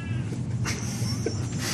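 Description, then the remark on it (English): A cat meows loudly in a couple of short, strained calls over a steady low rumbling background hum. “The cat is very loud.”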